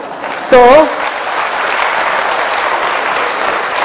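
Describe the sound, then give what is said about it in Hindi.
An audience applauds steadily for the whole stretch, a dense, even wash of many hands clapping, with one brief wavering whoop rising above it near the start. “और मैं आपको खुशखबरी देता हूं फ्रेंड्स कि गवर्नमेंट ऑफ इंडिया ने अभी तक दो बातों पर टैक्स नहीं लगाई है, एक तो मुस्कुराने पर और दूसरे तालियां बजाने पर।”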